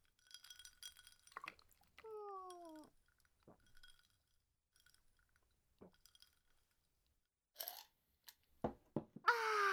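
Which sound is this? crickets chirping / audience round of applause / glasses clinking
glasses clinking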